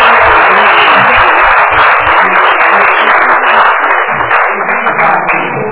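A crowd applauds steadily for a doctor who has just graduated, before a roll call; a dense wash of many hands clapping that holds loud and even for about six seconds, easing slightly at the very end, with no voices over it.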